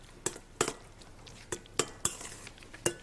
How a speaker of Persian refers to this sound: بعد هم میزنی؟ بله.